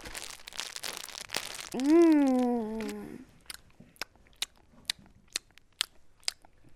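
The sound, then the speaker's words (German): Crunchy biscuits left over from a birthday being chewed: a burst of dense crackling, a sustained hummed 'mmm' from a voice, then about seven crisp, evenly spaced crunches at a steady chewing rhythm. “Ich habe aber noch Kekse vom letzten Geburtstag. Die könnte ich dir anbieten.”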